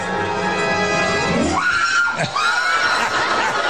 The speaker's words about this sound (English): I think it was in Japan where it was filmed, but basically this person sent this toy rat into a changing room, and people would start screaming and panicking.